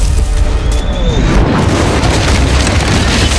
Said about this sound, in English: The cannonball smashed through the boxcar door. The ball had continued on at a downward angle and hit the boxcar floor and blasted a hole in it as well.